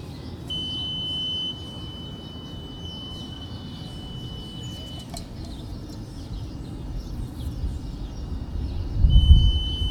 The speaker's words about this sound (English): I have a groundwater monitoring device. We'll just lower it down. So it'll beep once it hits the water table. Okay, so this is a cable on a spool that you're just dropping down into this tube.